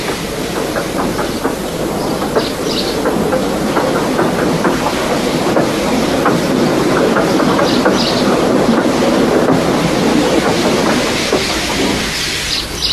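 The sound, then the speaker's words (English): The steam engine Gordon rolls steadily along the rails onto a siding, a loud continuous rumble with repeated clickety-clack wheel beats that eases off slightly near the end. No voices. “While the conductor went to find one, they uncoupled Gordon, who had enough puff to slink onto the siding out of the way.”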